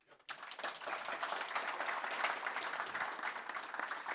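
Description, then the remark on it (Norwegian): Audience applause for Egil Selvik and Julius Eskilsen starts abruptly after a brief quiet moment, then holds steady as a dense, even wash of many hands clapping at once with no voices. “Sen skal vi gi en applaus til Egil Selvik, Julius Eskilsen.”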